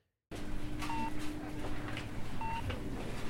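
electronic beeps

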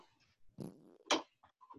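fart

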